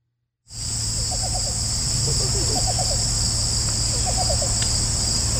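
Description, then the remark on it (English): A least bittern gives soft, low cooing notes in short bursts of four or five, repeated three times over a steady, loud buzzing chorus of crickets and insects. “But that's not the cuckoo. That's the least bittern. Let's hear it one more time”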